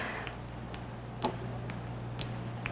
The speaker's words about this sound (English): When you're kept awake by the restless, jittery feeling of nervous tension, you hear all the noises of the night. Oh, that clock is getting on my nerves.